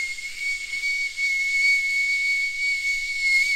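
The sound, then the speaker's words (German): A voice imitates the squealing V-belt of a car driven on the Autobahn: one steady, high-pitched whistling squeal over loud breathy hiss, held unbroken for a few seconds without any talking. “Ist das das Geräusch eines Keilriemens?”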